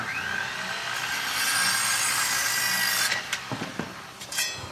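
Steady scraping and sawing of wood fills the first few seconds, followed by a handful of sharp knocks and clatters as tools strike material while a construction crew repairs a house.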